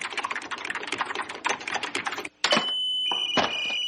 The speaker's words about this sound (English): What's wrong with this phone? It's making crazy noises. Those crazy noises are computer signals. Yeah, some guys at MIT are sending us reasons why Captain Picard is better than Captain Kirk.